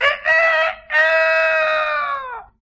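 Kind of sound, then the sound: bird, rooster crowing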